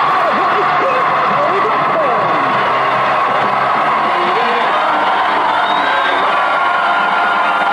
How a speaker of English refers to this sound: Once again, as you can probably hear, we have... Wow, have a listen to that crowd. We have got thousands of people here at Yavelin and the Isle of Wight, and break the silence for the last 2 hours. Welcome along to the roadshow.